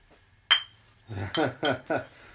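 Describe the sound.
A single bright clink of glass beer bottles knocking together rings out sharply and fades, followed shortly by a voice speaking a few syllables.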